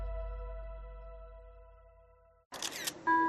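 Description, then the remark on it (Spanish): A sustained tonal hum with steady harmonic lines fades out, then a sharp, bright camera shutter click of a selfie taken at an airport boarding gate lands, followed by a short high electronic chime. “Atención, qué gusto verte de nuevo haciéndote el típico selfie en la puerta de embarque del aeropuerto.”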